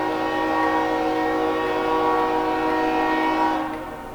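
A train's horn blares loud in one long, steady, chord-like blast, holding for several seconds before beginning to fade as the train passes outside a window. No one speaks.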